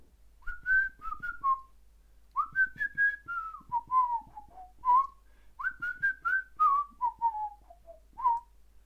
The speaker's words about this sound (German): Ah, Pfeif, du wolltest pfeifen.